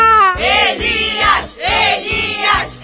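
Supporters of the Frei Daniel school cheer loudly for their school's representative in a riddle contest between schools, shouting together in a steady chant of short, rhythmic bursts that rise and fall for about three seconds.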